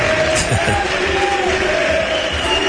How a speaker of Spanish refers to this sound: Ahí está la afición de Peter. Tocando las palmas, Peter, la afición también. La ovación a Peter, más que merecida.